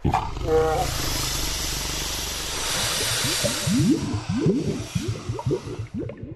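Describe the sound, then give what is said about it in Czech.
An eerie, deep roar, attributed to the mythical water bull of the former mountain bog Vlasinska Tresava, builds into a rapid series of guttural, bellowing pulses over a steady wash of hissing noise. It is loud, with no voices. “Njegova sablasna rika nekad je plašila usamljene putnike na obalama, a danas plaši ribare koji se odvaže na noćni ribolov.”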